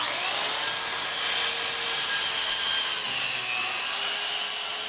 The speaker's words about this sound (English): Lazarus uses a special bee vacuum designed for sucking up bees